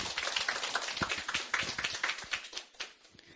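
A crowd applauds with a dense, steady patter of many hands clapping, sharp overlapping claps filling the whole stretch at moderate volume with no voices standing out.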